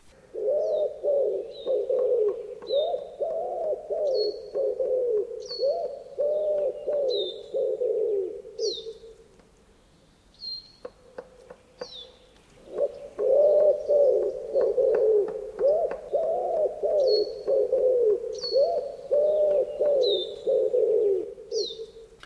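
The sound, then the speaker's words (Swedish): A common wood pigeon, the most common dove heard in the Tyresö area, coos in low, rhythmic five-count phrases, repeating steadily with a short pause midway, while small birds chirp high above it in the background. “Nu tror jag att vi tar och lyssnar på ringduvan som är i alla fall den vanligaste duvan som vi hör här i Tyresö-trakten i alla fall.”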